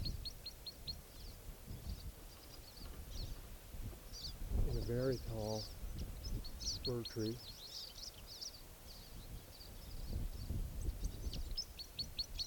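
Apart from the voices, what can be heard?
crossbill song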